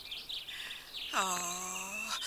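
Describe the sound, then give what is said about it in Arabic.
Small birds, sparrows and pigeons being fed bread crumbs, chirp in quick, high twittering bursts. About halfway through, a steady, lower, drawn-out tone joins them and holds for around a second while the chirping continues above it. “أروحوا هاهو الخبز، هاهو هذا الحفنة من الفتات، الأجمل عصفور فيكم وأحلى تغريدة منه.”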